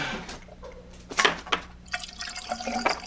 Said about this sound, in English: Pouring some coffee.